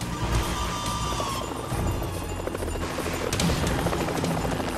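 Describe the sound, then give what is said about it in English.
A helicopter roars past low, nose dipped, flying forward and sideways down a slope a few feet above the ground, its rotor thumping in a steady, heavy rhythm beneath a dense, rushing whine of engine and wind. No one speaks. “The pilot dips the chopper's nose and powers the aircraft forward, maneuvering sideways down the slope, a few feet above the ground.”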